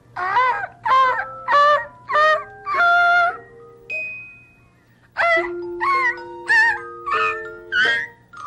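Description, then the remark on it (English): A voice imitates a snow goose, giving a run of about ten loud, nasal, harmonic honks in steady rhythm, split into two groups by a brief pause, with no other talking. “Would you like to hear me do it in Snow Goose?”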